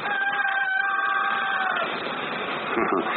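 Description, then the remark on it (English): One of Mrs. Webb's cockerels crows once just before dawn on May 7th, 1901, in a small town, a long drawn-out call that holds for over a second before trailing off into a steady, muffled background rumble. No one speaks. “That was one of Mrs. Webb's cockerels.”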